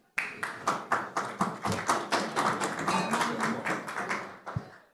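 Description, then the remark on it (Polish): Applause from an audience at a panel discussion in the SGH zone on current challenges of the housing market in Poland, heard as a fast, steady rhythm of crisp claps that holds at an even loudness for about four seconds, then stops abruptly. No voices are heard. “Dziękuję ślicznie za oklaski, dziękuję za zaproszenie, dziękuję za powitanie.”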